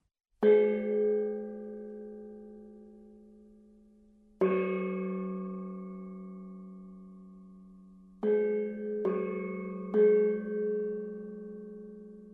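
A gong, an instrument from Asia, is struck five times, each hit ringing out with a long, shimmering decay; the first two are spaced apart, then three come in quicker succession near the end.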